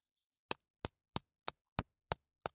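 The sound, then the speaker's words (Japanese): An eggshell being cracked: seven crisp, sharp taps at a steady, even rhythm, each a brief bright click with no voices in between. “鳥さんが卵の殻を割って出てくるみたいな音がする。”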